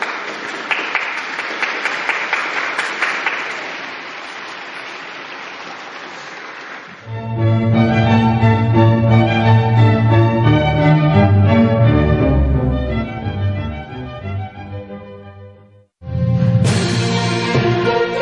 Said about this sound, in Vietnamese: Đức Thánh Cha mời gọi mọi người cho một tràng pháo tay cho các bà mẹ. Un applauso alle mamme.